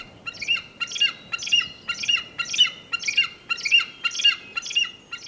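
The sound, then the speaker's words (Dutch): A large eagle flying overhead gives a loud, shrill screech in a steady repeated series, about ten harsh calls roughly half a second apart, with no voices. “Boven hem vliegt een grote adelaar.”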